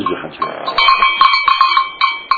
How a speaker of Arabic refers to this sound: طيب يعني هذا الصوت مثلا، هذا الصوت معروف يعني مثلا انه هالجرس صار المعزلة فلان، معروف صوت الجرس تبعها. يعني كل جرس كل كل واحد راعي له جرس خاص.